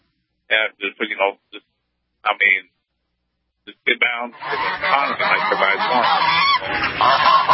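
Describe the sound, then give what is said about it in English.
A series of short nasal quacks in quick bursts, then a dense, loud clamor of many overlapping quacks and honks like a crowded flock, continuing to the end. “See, that was the lame duck Congress. They're trying to attack us”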